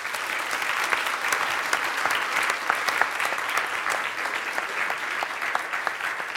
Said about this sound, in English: Thank you, and let's applaud our adult volunteers.